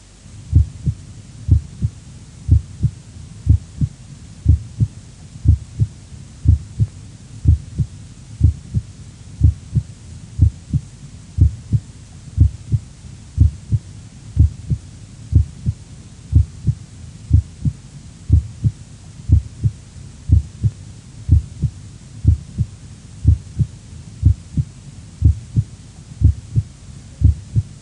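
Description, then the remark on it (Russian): Steady, regular normal heart sounds heard by auscultation at the cardiac apex, each beat a low lub-dub pair, the first sound louder than the second, with a short gap (systole) between the two and a longer pause (diastole) before the next, repeating evenly throughout without any talking. “Прослушайте нормальные тоны сердца на верхушке.”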